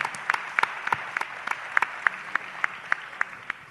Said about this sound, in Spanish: Un aplauso para él.